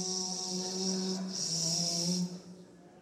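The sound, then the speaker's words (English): Several voices hum together in a steady, low drone with stacked harmonic tones, buzzing like a swarm of bees for about two seconds before fading and trailing off. “You sound like bees.”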